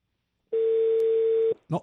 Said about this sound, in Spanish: estaba dando un timbre, pero perdimos la comunicación